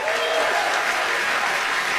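An audience applauding, a dense, steady wash of many hands clapping at once that holds at an even, fairly loud level for the whole stretch, with faint crowd murmur mixed in.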